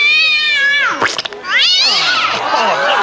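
A cat yowls loudly, two long, wavering caterwauls with sliding pitch, broken by a brief rough pause between them.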